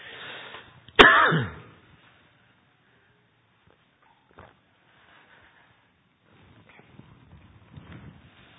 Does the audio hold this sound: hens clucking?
no